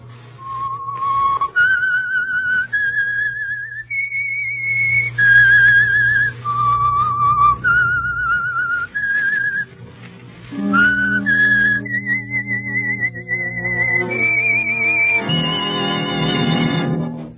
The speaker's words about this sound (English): whistle is your signal for the Signal Oil program, The Whistler.